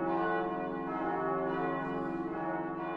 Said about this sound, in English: The bells announce Sunday Mass at the Church of the Sacred Heart in Berlin's Mitte district.